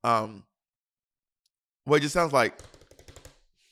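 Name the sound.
typing on a keyboard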